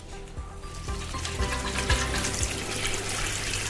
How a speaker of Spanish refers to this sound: Cierra el grifo al lavarte los dientes, cuida del agua y sé más prudente.